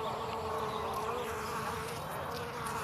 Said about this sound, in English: Those are the sounds of feral honeybees, and they, like other bee species, are important for pollinating every plant and crop in California, keeping the state's economy buzzing.